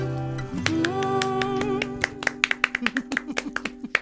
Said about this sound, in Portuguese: Olha os aplausos. Ah, os aplausos são para nós.